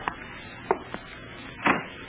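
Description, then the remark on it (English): A door is opened: a few sharp latch and handle clicks, then a longer rattling scrape as it swings, all fairly quiet with no one speaking. “Open the door.”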